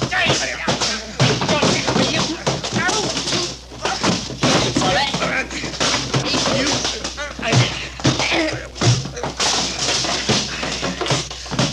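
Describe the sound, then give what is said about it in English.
A chaotic, loud fistfight scuffle, with a rapid, irregular barrage of thuds and blows over continuous grunts and shouting voices for the whole stretch. “Gee, that was a fight.”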